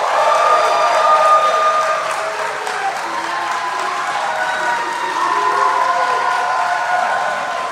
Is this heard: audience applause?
yes